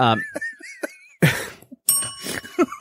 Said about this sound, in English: If you can't tell, we just recently added the bell. My dog is terrified of it, so we have to do it when he's away.